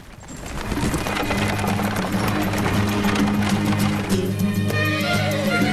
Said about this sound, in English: The horses pull the coach through a rocky crevice path. The horses travel beneath an amber dusk sky.